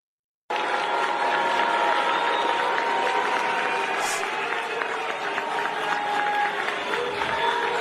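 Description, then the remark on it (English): A large crowd at an award ceremony boos Letitia during her speech, a dense wall of jeering voices with drawn-out low hooting tones that starts abruptly and holds at a constant loud level throughout. “It was an award ceremony, and they kind of nearly booed her off the stage.”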